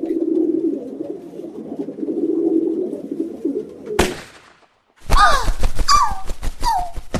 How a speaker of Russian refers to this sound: Зашел он в темный лес и видит: сидит на дереве горлица.